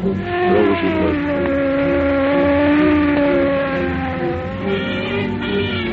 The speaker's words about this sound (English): While traffic at one of Los Angeles' busiest intersections is jammed with a morbidly curious mob, car 11 screams through downtown streets.